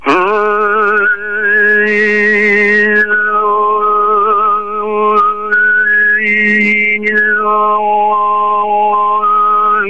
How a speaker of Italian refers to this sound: possiamo inserire con una tecnica particolare gli armonici, e cioè delle note all'interno delle note, quindi mentre canto produco più note contemporaneamente